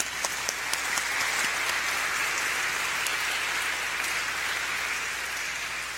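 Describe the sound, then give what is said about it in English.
An audience applauds steadily for several seconds to mark a fifth year of ministry, a dense, even wash of clapping with a few sharper individual claps early on and no voices over it. “I also think that deserves applause.”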